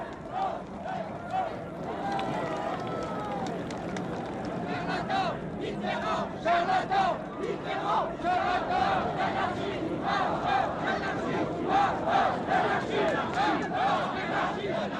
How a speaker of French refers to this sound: Dès la fin du discours, la foule afflue place de la Concorde, où de vieux briscards du gaullisme ont prévu depuis plusieurs jours une manifestation. Ils attendent 50 000 personnes.